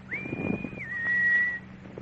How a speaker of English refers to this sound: you can just go ahead and whistle. At least until the professor hears you.